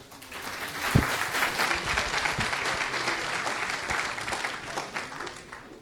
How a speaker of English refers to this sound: So let's give an applause